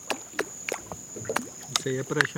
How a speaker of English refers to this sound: he starts flicking the water with his fingers.